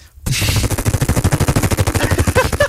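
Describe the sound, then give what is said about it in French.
A voice imitates a helicopter with the mouth: a rapid, steady chopping thump, about ten beats a second. It is loud, low-pitched and continuous for over two seconds after a brief silence, with no talking. “L'hélicoptère vient de partir.”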